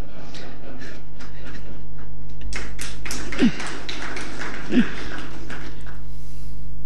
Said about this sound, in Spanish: A mí me pareció que el perro te estaba ladrando cuando él decía, daba números. Pues sí. Viste que él dice esto, pasa, y el perro dice, ¡guau, guau,